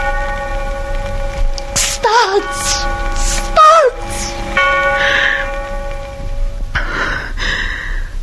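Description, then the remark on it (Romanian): A clock strikes the hours with deep, ringing bell tones that hang and overlap, their pitch briefly wavering, before fading into a soft hiss. No one speaks. “Minutarele înaintează alene și ceas după ceas se aude cum bate.”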